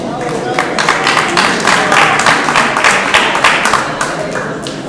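A crowd applauds steadily for about five seconds, a dense, loud crackle of many hands clapping with no break, the claps blurring into a continuous rustling roar.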